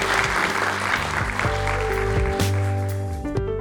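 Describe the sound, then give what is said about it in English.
An audience breaks into steady, sustained applause for the guests at the end of a conversation about climate, a dense wash of clapping that carries on for several seconds as sustained musical tones play underneath. “Let's give them a big round of applause for us.”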